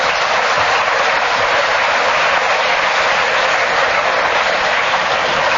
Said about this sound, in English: The Kenneth Williams fan club in the front row here are cheering like mad. And they were delighted that Kenneth was speaking when the whistle went, because he got the extra point.